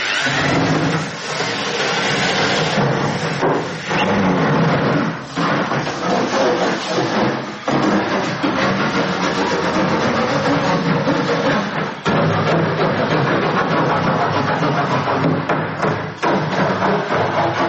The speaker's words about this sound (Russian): А вот послушайте. Вот так может звучать тонкий сосновый пласт.